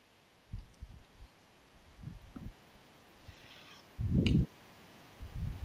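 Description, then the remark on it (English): Intermittent gusts of wind at a baseball game buffet the microphone with low, muffled rumbles. Several short puffs lead up to one stronger blast, over a quiet background with no talking. “Get a little gust of wind every once in a while.”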